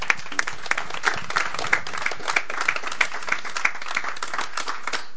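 Audience applause for a micro-story (micro-nouvelle) at a prize presentation: a steady patter of many hands clapping at once, sharp irregular claps blending into a continuous wash of moderate loudness, with no voices over it.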